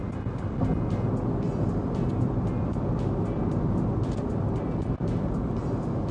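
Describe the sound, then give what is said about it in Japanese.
Steady, loud road rumble from a car driving at speed through the Arashiyama Tunnel on the way to Asahikawa Takasu, a dense low roar that holds unbroken throughout with faint hissing above it, echoing inside the enclosed tunnel. “はい、またトンネルでーす。嵐山トンネル、そんな名前なの。”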